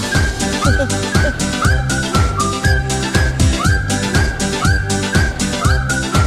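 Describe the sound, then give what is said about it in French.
A whistled tune with sliding, swooping notes rides over steady music with a thumping beat and deep bass pulses, loud and continuous throughout. “Mais à un moment, ils sifflent tous, hein.”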